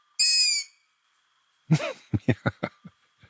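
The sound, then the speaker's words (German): A young long-eared owl, a nestling or fledgling, gives one thin, high-pitched squealing call, clear, followed after a pause by a quick run of short, rough bursts that fade out. “Die Jungvögel hört man tatsächlich, das ist dann eher der Vokal I. Wenn man die so im Mai, Juni hört, dann ist das so ein ganz hoher Schrei.”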